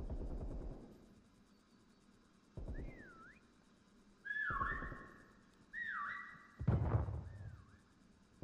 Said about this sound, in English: So he literally just came here just to like toot his whistle.